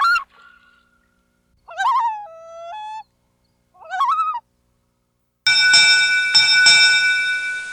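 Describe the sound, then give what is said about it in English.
A U.S. Fish and Wildlife Service recording of a common loon, a winter resident of Virginia waters, giving three calls, wavering, wailing cries that rise and step in pitch, separated by short silences, followed by a loud, sustained ringing tone with a bell-like shimmer. “We close with a U.S. Fish and Wildlife Service recording of another Virginia water-related winter resident, the common loon, a species that some diligent coastal Virginia counter might spot or hear on a winter day or night.”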